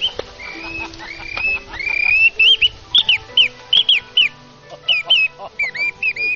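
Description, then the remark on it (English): A handmade bamboo bird-call whistle, made from a small piece of bamboo with a piece of metal about 1 cm by 1 cm slotted in, blown first in a few sliding tones, then in a quick run of short, bright chirping bursts that mimic a bird's call. “Should we check out those whistles?”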